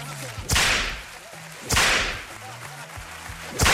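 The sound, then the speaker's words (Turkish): Three sharp, loud whip cracks ring out at roughly even intervals, each a sudden snap with a bright, hissing tail, while faint murmuring voices carry on underneath. “Müdür, kırbaçta combo istiyoruz.”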